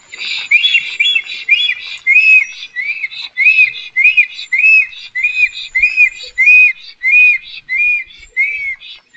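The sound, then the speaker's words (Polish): A male bird gives its territorial call, repeating one short, high, arching whistled note over and over in a steady, even rhythm, roughly two per second, loud and clear with no voices. “Trudno to nazwać śpiewem ptasim, no ale jest to jakiś jego tam rytuał wokalny.”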